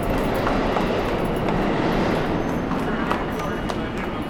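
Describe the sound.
A subway train roars past in a station, a loud, steady rumble with faint rattling that fills the whole stretch, muffled voices blending into the noise.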